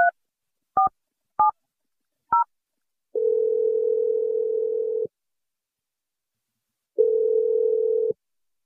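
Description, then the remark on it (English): A phone dials with four quick beeping keypresses, then rings twice with long, steady tones separated by a pause, with no talking, as a call is placed to a man's fiancée. “But we're going to dial your fiance”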